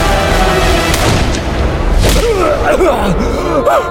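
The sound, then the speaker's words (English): Two sharp musket shots crack out over a loud, steady rumble, the second blast heavier, followed by rising and falling yells from several voices, as a retreating Yankee soldier fires at the man leading a Rebel charge. “One of the last to leave took aim at the man leading the charge and fired.”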